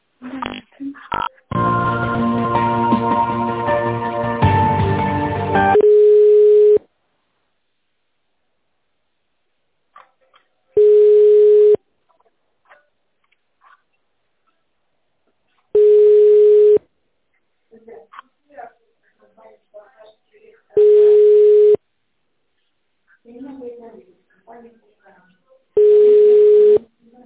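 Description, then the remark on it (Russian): A telephone ringback tone sounds while a call is being connected to a specialist: five steady, mid-pitched one-second tones spaced about four seconds apart, after a short burst of dense tonal audio and with faint murmurs between rings. “Давайте я соединюсь со специалистом.”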